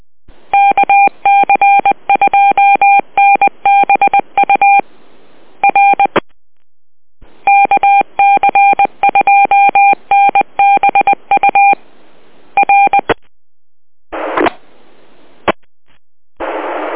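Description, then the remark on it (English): Rapid bursts of telephone touch-tone (DTMF) dialing beeps as a phone call is placed, clipped dual-pitch tones in quick sequences separated by short pauses, followed by a few static-filled bursts at the end. No one speaks. “I'm gonna run, and I gotta get Andrew a call here and find out what's going on.”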